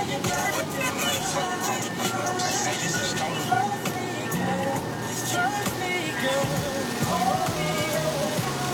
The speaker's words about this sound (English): It is no fucking joke on rain right now. This is a rainstorm. This is like, I don't want to drive.